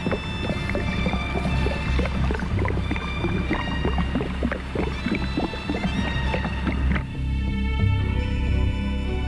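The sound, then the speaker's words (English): A succussion splash: liquid sloshes and splashes inside a distended stomach in a rapid, uneven series of wet, gurgling knocks, loud, with no talking. It is produced by forcefully shaking the patient's abdomen, splashing retained gas and liquid against the stomach wall. “The resultant sound is called a succussion splash and is frequently found with pyloric obstruction.”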